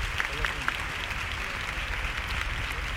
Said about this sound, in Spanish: Se detiene el paso, no ha hecho falta tocar el martillo, los costaleros están bien enseñados. Y este es el aplauso.